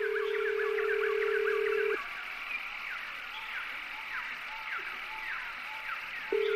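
phone call tone

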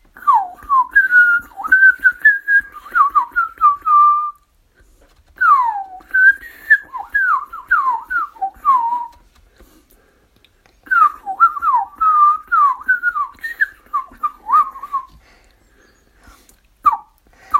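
blackbird song

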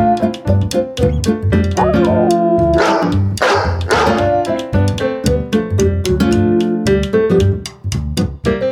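puppy barking

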